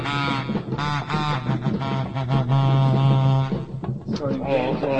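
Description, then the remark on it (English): A duck call blown in a run of loud, nasal, buzzy quacks, short bursts stretching into one longer drawn-out honk before a few final choppy quacks. “I had to bring back the duck call.”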